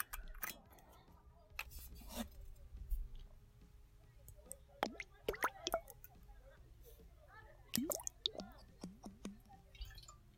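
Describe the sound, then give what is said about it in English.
Liquor is poured into shot glasses, trickling between sharp glassy clinks and clicks, intermittent, with a low murmur of voices in the background. “First, we will pour some shots.”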